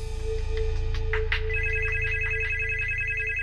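A telephone rings during the Yle Framtiden radio show with a warbling electronic tone, repeating in quick pulses over a steady low hum and background tone, clear, with no one talking.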